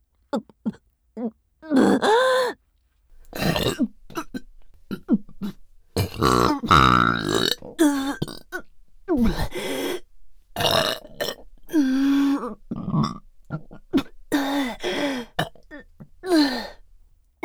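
A long run of loud burps follows one after another, some short and some drawn out and croaky, with brief pauses between them and no talking.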